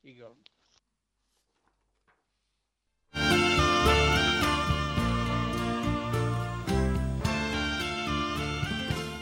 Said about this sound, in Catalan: Com heu sentit abans, havia gravat les campanes com les heu escoltades, amb les hores de les 10 del matí.